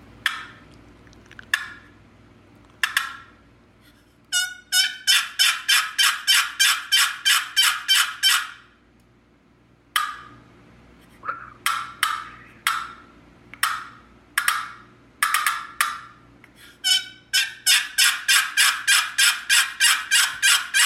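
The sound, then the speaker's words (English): A wooden box call, which rubs two pieces of wood together, scrapes out a long turkey assembly yelp, a call hens use to look for their young and group them together: repeated raspy, evenly spaced yelps in several bursts, loud, with short pauses between series and no talking. “Jacob was using something called a box call, which rubs two pieces of wood together in order to make a sound.”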